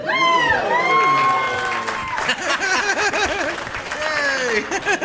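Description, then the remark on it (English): A studio audience bursts into loud cheering and whooping, with many voices rising together, then sustained applause with dense clapping carries on under the shouts for several seconds, greeting the introduction of a game called More or Less. “I love applause for something you don't even know what it is.”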